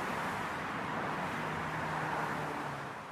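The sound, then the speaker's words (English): A steady, dense roar of city traffic with a low engine hum running underneath, continuous and fairly loud throughout, easing slightly at the very end. No one speaks. “But average city traffic, 80 decibels.”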